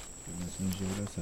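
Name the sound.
howler monkeys calling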